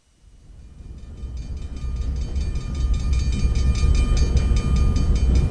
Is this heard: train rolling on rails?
yes